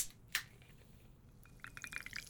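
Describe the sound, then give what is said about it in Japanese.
A short clink, then soda pours into a glass over homemade ginger syrup to make ginger ale, and a bright, crackling fizz of tiny popping bubbles builds over the last second, fairly quiet. “あら、思ったより泡立つわね。”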